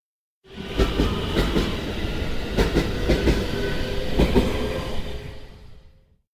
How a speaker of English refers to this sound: The train will arrive at the next station soon, so I will be able to sit down.